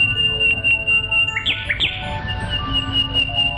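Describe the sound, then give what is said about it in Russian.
A nightingale sings alone: a steady high whistling tone with a couple of quick, bright chirps bursting out in the middle, clear over a low background hum. “И вот из ларца появился соловей и запел так чудесно, что нельзя было сейчас же найти какого-нибудь недостатка.”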